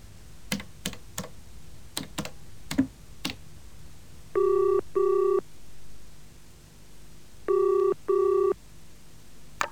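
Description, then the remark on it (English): Several quick clicks of a phone number being dialed, then a ringback tone pulsing twice in paired double rings with a pause between, clear with no voices. “Could I use your phone? Yes, of course.”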